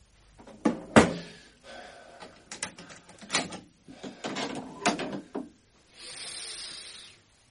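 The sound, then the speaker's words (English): The front door of a shop, left unlocked, is handled and opened while checking whether it was bolted: sharp wooden clunks and latch rattles in an uneven series, then a steady, softer hissing creak near the end. No one speaks. “I was right. I didn't lock the door.”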